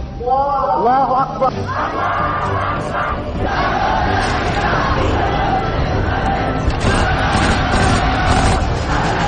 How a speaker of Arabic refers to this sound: أطلق السيد حسين الصرخة في وجه المستكبرين هتاف الحرية والبراءة، وأعلن بذلك انطلاقة المشروع القرآني، وذلك في تاريخ 17 من يناير عام 2002.